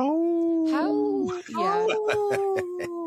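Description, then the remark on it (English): A man imitates a wolf howl, meant as saying no in wolf, with a drawn-out, wavering vocal tone, then breaks into shorter, choppier voiced bursts, fairly loud. “So I speak wolf. When I say no, I go,”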